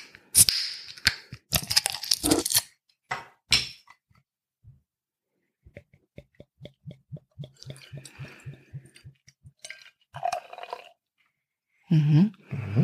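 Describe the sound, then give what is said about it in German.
A bottle of top-fermented, beechwood-matured beer (4.9% alcohol) is opened with a few sharp metallic cracks and a short fizzy hiss, followed by a run of rapid, evenly spaced low glugs and some scattered clinks. No one speaks. “Dann würde ich sagen, mache ich die Flasche mal auf.”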